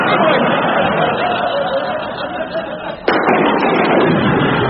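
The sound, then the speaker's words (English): A thunderstorm roars with steady, heavy rumbling noise, broken about two-thirds through by a single sharp, loud crack of lightning striking through the roof before the rumble carries on. “Listen, a thunderstorm at last. And look, lightning striking through the roof.”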